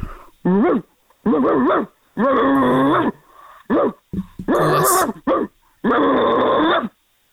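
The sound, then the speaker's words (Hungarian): A person imitates a dog, letting out a run of about seven loud growling barks and snarls in uneven bursts, with brief pauses between them and no other talking. “Na jó, oké, kíváncsiak vagyunk, a kutya márkáját nem mondd el, tehát figyelünk, jó?”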